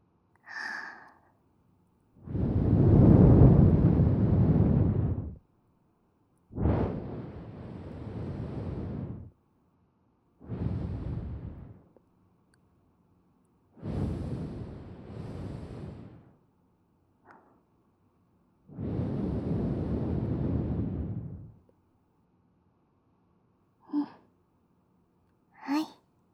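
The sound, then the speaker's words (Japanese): Several long, warm exhaled breaths blown softly deep into the ear, each a broad airy rush lasting a few seconds, separated by pauses, with a couple of short breathy puffs at the end and no talking. “さっきよりも温かい吐息をお耳の一番奥にまで届くように。”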